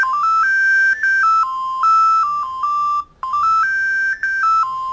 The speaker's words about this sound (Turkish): Biraz şeye benziyor hocam. Bizim eskiden çamaşır sucular evet, geliyor. Evet hocam hakikaten. Tam okul zili bak. Okul zili. Çamaşır sucular da böyle gelirdi.